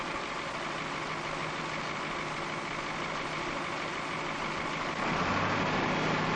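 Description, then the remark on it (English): A heavy diesel machine engine idles steadily while warming up after being started, a dense rumbling drone with a constant mechanical hum that deepens slightly near the end, with no voices present. “While he waits for the engine to warm, Harry's thoughts drift to worries about his son.”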